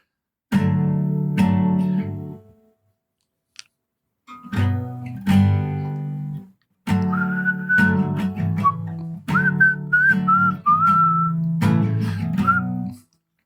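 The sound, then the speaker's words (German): A person whistles a melody in bright, sliding notes over fuller musical backing, starting partway through and running in short phrases separated by brief pauses, clear. “Mit Gepfeife.”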